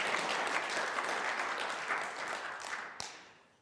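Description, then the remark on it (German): A church audience applauds together, giving applause to the Lord, a dense wash of many hands clapping at steady volume before thinning and fading out near the end, with a faint voice briefly audible. “Komm, wir geben uns dem Herrn einen Applaus für so eine coole Church.”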